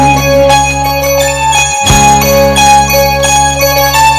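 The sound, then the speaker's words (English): A bell rings loudly and steadily, with repeated strikes whose bright, sustained tones overlap and linger over a rich musical drone, with one brief sharp hit partway through and no voices. “And he began to ring a bell.”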